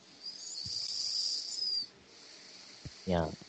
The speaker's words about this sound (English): Can I hear breathing noises?